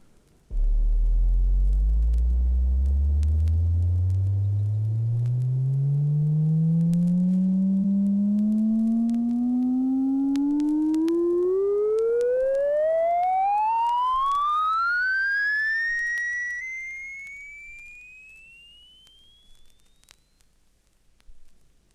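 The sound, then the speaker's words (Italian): A steady musical tone climbs smoothly from a deep low pitch to a high, thin one over about twenty seconds, loud throughout, then fading at the top. No one speaks. “Ascolta la serie dei suoni musicali dal più grave al più acuto.”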